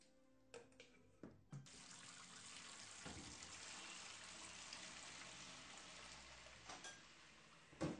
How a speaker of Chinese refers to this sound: 哎呀，哎呀，这洗碗的水都溅到衣服上了。可是不用力洗的话，又洗不出来。